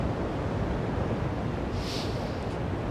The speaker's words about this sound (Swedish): Men när han såg hur stark vinden var. Oj, kommer vinden.